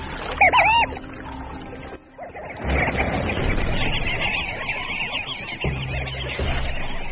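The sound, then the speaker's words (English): A few brief chirping bird calls, then steady splashing and rustling as a male sandgrouse soaks its specially adapted breast feathers in shallow water to collect water for its chicks, continuing without speech to the end. “Using specially adapted breast feathers, he can soak up water like a sponge.”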